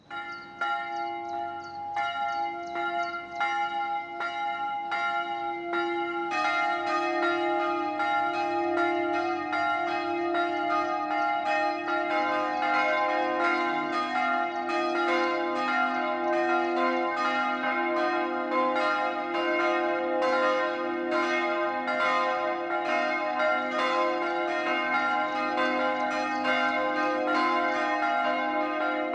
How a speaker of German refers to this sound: Es ist 12 Uhr. Das Mittagsläuten kommt heute von der evangelisch-lutherischen Erlöserkirche im oberpfälzischen Tirschenreuth.